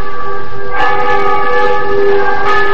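Loud church bells ring on a Sunday morning in a call to worship, echoing against the mountains behind a valley, with no voices; their rich tones hum steadily while fresh strikes land near the start and again near the end, each swelling with a bright, clanging burst.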